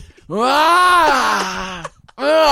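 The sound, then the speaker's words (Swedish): A voice imitates a werewolf's guttural howl: one long, loud, drawn-out groaning wail that swells and sags in pitch, cuts off, then a second howl begins. “Och jag satt och skrek upp mot månen som en varul. Alltså läten, gutturala läten från min, som jag inte vet var den kommer ifrån.”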